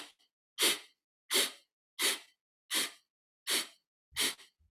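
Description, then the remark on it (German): Six short, sharp sniffing inhalations follow one another at a steady, even rhythm, each a brief hissy burst of breath with silence between and no talking, as part of a breathing exercise of inhaling in eight small sniffs with an up-and-down hand movement. “Das heißt, du atmest ein, indem du 8 kleine, sagen wir mal, Schniefe nimmst.”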